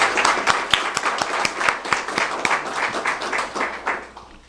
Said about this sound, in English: So I think we need to give him another round of applause.